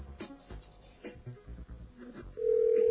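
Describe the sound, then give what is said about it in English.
A telephone ring tone of an unanswered call, heard as if through a phone line: muffled, band-limited background noise gives way to a loud, steady electronic ring near the end. “It's still ringing there.”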